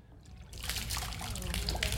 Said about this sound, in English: Abundantly, I should have done it over the terrazzo, of course. Impenetrable terrazzo. Don't worry, it'll dry. It's just water.